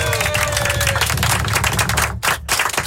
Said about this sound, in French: Toute la radio qui est venue vous applaudir